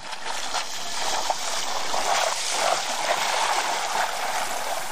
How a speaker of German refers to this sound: Wasserski bin ich auch schon gefahren und heute ist ein etwas mehr Wind. Wie man vielleicht merkt, ich stehe hier direkt am Strand.